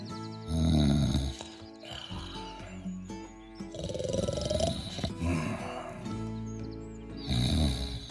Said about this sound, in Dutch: Alex lag lekker te snurken in zijn warme bed van bladeren.